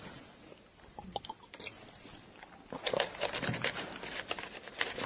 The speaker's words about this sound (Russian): Глотну. Перестану игнорировать тело. Невозможно же постоянно испытывать жажду.